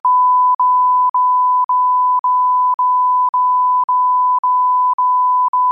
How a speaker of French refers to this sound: Et encore, si je me retenais pas, ça donnerait un truc avec plein de bips partout si je disais ce que je pense réellement de ces...